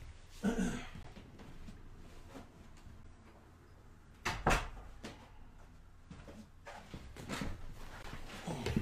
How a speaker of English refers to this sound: Let me just pause here to close my door before I move on, okay?